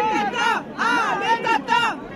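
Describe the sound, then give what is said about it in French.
Dense crowd chatter at a market in Saint-Pierre-sur-Dive, Calvados, France, a compact crowd gathered around candidate Marine Le Pen: many overlapping voices talking at once in a steady, fairly loud babble, with a few brighter voices rising briefly above the hubbub. “Une foule compacte s'agglutine autour de la candidate.”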